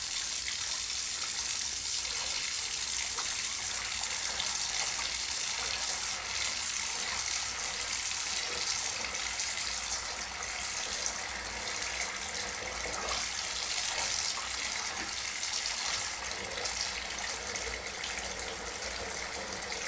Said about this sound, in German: Ich lasse mir ein Bad ein, mit herrlich warmem Badewasser und einem Schuss duftendem Orangenöl.